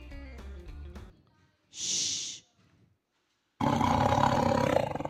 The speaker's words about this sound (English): What's that sound? A lion. He says a lion. You think it's a lion? We'll see. He says lion. It's a tiger. Tiger.